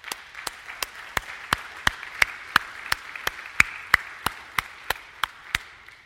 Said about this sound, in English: And so I want to put my hands together and clap for you.